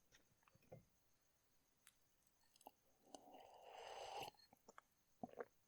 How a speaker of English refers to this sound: Could I get a sip of your wine, if you don't mind? There. You've got it?